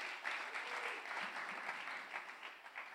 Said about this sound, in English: Let's give him a clap.